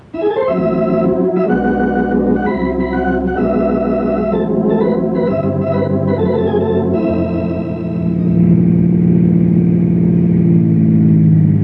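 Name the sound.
car engine driving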